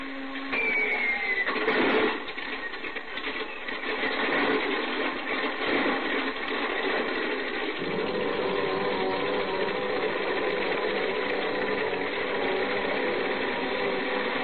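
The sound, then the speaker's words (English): A propeller plane's engine warms up at an airport at night, running loud as a steady mechanical roar that surges and shifts as it revs up partway through, continuing without any voices. “I didn't waste much time warming up the engine.”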